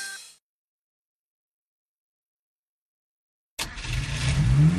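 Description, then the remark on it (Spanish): After a brief sound and a long silence, the engine of a racing Safety Car suddenly roars in loud, its pitch climbing as it revs hard through the final second. “Cuando hay follón, sale un coche que se llama el Safety Car.”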